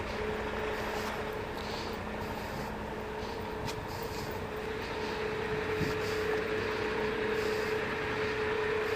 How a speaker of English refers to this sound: There you go. Cement truck.